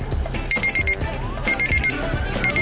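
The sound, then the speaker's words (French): An oven's electronic beep signals that cooking on the chicken function, with the probe inserted in the poultry and the oven door closed, is done: repeated bursts of short, high-pitched tones in quick rhythmic clusters, fairly loud, with no talking. “Pour terminer, enfoncez la sonde dans la volaille, fermez la porte du four et vous serez averti par un signal sonore que la cuisson est terminée.”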